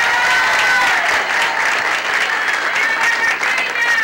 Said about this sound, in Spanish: Lo aplaudimos de todo corazón.